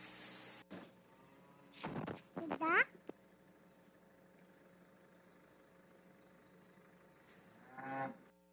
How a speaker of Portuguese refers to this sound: Após concluir a ordenha, também, após fornecer a silagem, a ração, as vacas vão ficar aqui nesse momento se alimentando.